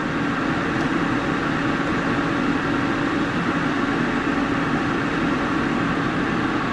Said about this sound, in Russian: Кондиционер, но они его на всю катушку тут врубили. Я даже не знаю.